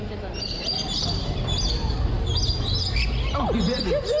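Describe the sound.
A small bird in a played video, the bird that bites a person, chirps and tweets repeatedly in quick, high bursts, moderately loud over a steady low background hum, with a brief muffled voice-like sound near the end.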